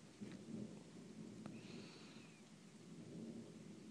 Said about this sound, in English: I love the sound of a thunderstorm. There's something peaceful about it.